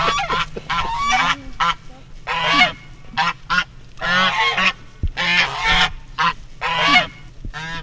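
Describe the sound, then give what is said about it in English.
Two African geese named Maverick and Buckles honk loudly and repeatedly, a series of harsh, nasal blasts overlapping in an uneven, excited rhythm with brief gaps between bursts. “They are African geese.”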